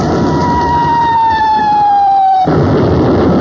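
An artillery barrage called in to soften up a hill that troops had failed to take: a shell's long descending whistle cuts through steady rumbling noise, then gives way abruptly to a loud, broad blast of roaring noise. No one speaks.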